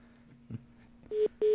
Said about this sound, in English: I heard two beeps. Now, that's not right. okay. Oh, you know what that is? That means we're on hold. Ah. Yeah. Okay. That's what that is. It's a hold beep. Okay, fine. So we're on hold while they're connecting each other.